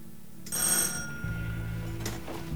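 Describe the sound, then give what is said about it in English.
A bright, ringing front doorbell sounds clearly over a low steady background hum, its metallic tone lingering and fading, followed by a second, softer ring shortly after. No one speaks. “He gets off his bed and goes to answer the front door.”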